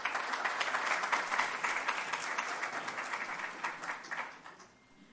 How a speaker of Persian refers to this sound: تشویق بکنید خودتون.